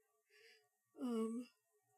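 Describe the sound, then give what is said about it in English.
A single yawn, a drawn-out voiced groan that rises then sags in pitch for about half a second, preceded by a soft breathy inhale; no talking. “Excuse me, I've got yawns too.”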